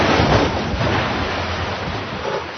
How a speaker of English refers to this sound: If you crash, you get this sound.